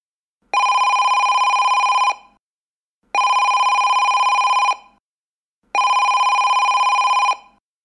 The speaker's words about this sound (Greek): Τηλέφωνο.